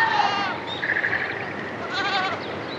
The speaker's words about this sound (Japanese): 宮城県北部登米市御滝堂です。ヤギやニワトリ、野鳥たちが朝を知らせています。